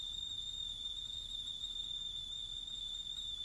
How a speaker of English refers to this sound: The kettle's boiling. We'll make some tea.